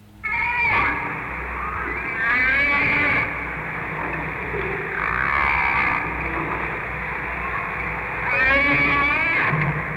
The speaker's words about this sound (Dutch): Weet u welke walvis u nu hoort? Zou dat bultruggen kunnen zijn? Het is een vinvis. Wat zegt u? Het is een vinvis. Ja. Een gewone vinvis? Een gewone vinvis.